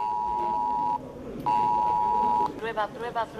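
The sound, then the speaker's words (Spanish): A phone's emergency alert blares two long, steady electronic tones, loud, with a short gap between them, before a voice starts speaking right after. It is a Protección Civil test alert on mobile phones in the centre of Pamplona, around Plaza del Castillo and Paseo Sarasate. “ciudadanos que de repente se sorprendieron al recibir esa alerta en el móvil”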